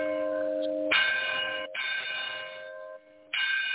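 chapel bell ringing

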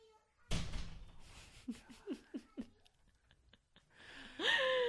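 door being closed

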